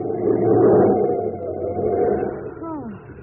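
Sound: car swerving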